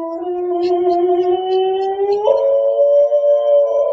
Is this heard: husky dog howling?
yes